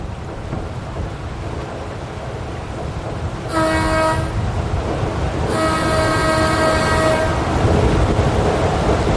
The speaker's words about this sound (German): Ja, den Schiffspropeller mit dem Wasser hört man natürlich. Aber es ist kein Vergleich mit dem alten Dieselmotor.